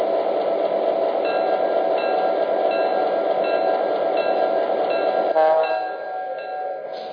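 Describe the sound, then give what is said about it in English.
A passenger train, the Empire State Express, train number 50 from Niagara Falls, rolls into Utica station on track 2 with a loud, steady rumble and thin high-pitched squeals, most likely brakes, before the noise drops off sharply near the end as it slows. “arriving from Niagara Falls on track 2, train number 50, the Empire State Express.”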